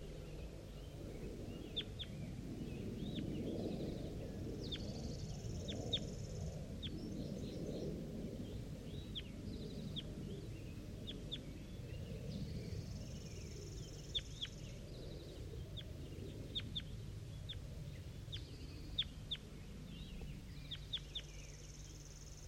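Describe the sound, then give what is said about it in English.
Wild birds call with scattered short, high chirps, some in quick pairs or bursts, repeating throughout over a steady low rumble of background noise. No one speaks. “I think it's a new bird.”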